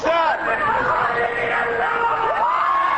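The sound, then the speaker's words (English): A huge crowd of hundreds of thousands shouts and yells together at a political rally for Lebanon's anti-Syrian ruling coalition in Martyrs Square, heaping scorn on Syria's president and his Lebanese allies. Many voices layer into a continuous angry roar, with rising cries breaking through, sustained across the whole moment. “The crowd heaped scorn on Syria's president and his Lebanese allies, especially Lebanese President Emile Lahoud.”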